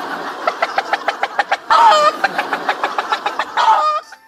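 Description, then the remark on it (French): A person imitates a hen's cackle after laying an egg: a fast series of clipped, rhythmic clucks broken by two drawn-out, nasal squawks, loud with no other sounds. “Quel est le cri de la poule qui vient de pondre un œuf?”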